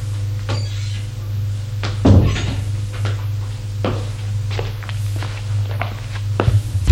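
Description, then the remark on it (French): Someone knocks on a living-room door, which rattles open, and footsteps walk in at an even pace, a sharp thump standing out early on, all over a steady low hum with no one talking. “Frappe à la porte du salon et entre.”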